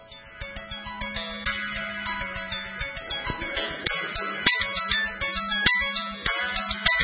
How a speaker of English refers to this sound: Right in the middle of a staff meeting, my phone went off and I had a really cheesy ringtone that the whole staff made fun of. Here it is, if you can hear it.